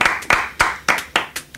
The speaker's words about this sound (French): Attends, en plus, je suis tout seul à applaudir.